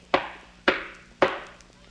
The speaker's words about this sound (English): Now, at that moment, there came a knocking at the door.